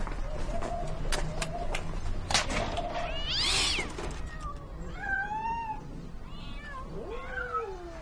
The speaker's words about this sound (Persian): چند تا گربه وسط اتاقه. با پاهای شکسته که خودشون روی زمین میکشند و میو میو میکنند.